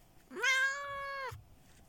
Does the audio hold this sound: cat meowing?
yes